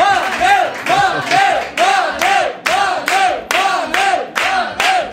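A loud audience greets a guest being introduced with rhythmic cheering, steady pulses of many voices and possible clapping beating out roughly twice a second for several seconds.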